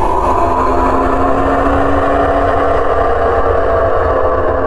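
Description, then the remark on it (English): A great winged beast, as long as the sun is wide and with a jaw that could swallow a planet, roars as it races out of the sun. The roar is deep and rumbling, loud and steady for nearly five seconds, with a droning, engine-like growl and a hissing edge. No one talks. “It lets out a roar.”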